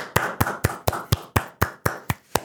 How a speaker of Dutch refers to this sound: Oh nee, we moeten nog even voor de zorg en voor de ouderen nu klappen.